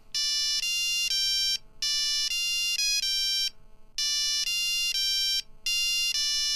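A custom-composed mobile phone ringtone plays a short riff of bright, synthetic beeping notes, repeating three times with brief pauses between, loud and close with no voices.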